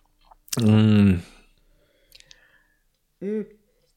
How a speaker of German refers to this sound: Vielleicht können wir ja mal, während wir hier rumschmatzen und abschmatzen, schon mal gucken.